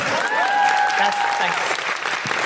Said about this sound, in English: A little applause came out. That makes me so happy. Sorry to interrupt. Thank you so much. Feel free to applaud or don't. Or don't.